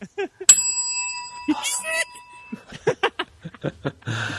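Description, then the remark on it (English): A single bright ding of a small bell rings out clearly and hangs for over a second, while people talk and laugh around it. “ring the bell quick.”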